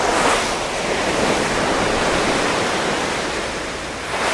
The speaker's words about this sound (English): So I'm able to head outside as huge waves crash against the side of the ship and send white froth into the air.